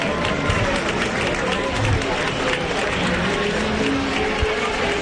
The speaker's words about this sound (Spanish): Pero vamos a escuchar el pirotécnico, vamos a escuchar los aplausos en este balcón. A ver.